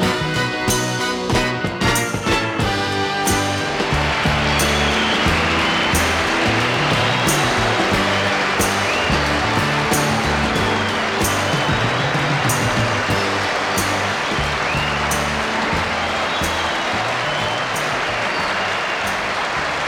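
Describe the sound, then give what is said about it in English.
A song with strong drums and steady rhythm gives way to loud, sustained applause that swells and washes over the music, continuing as a dense roar of clapping with the beat faintly underneath. “There should be more songs where the artists mix in their own applause for the effect.”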